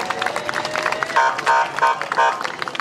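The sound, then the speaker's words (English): A crowd at a parade in the City of Jackson applauds with dense, steady clapping that swells slightly midway, mixed with faint cheering and murmured voices throughout. “Nice round of applause.”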